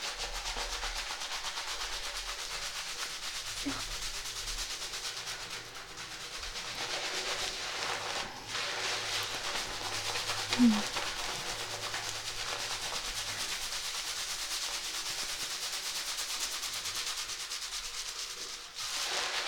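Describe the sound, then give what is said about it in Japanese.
Hair being lathered and scrubbed: a steady, continuous rubbing and squishing that keeps an even level throughout, with one brief, slightly louder squeak partway through and no voices. “よく泡立てて、”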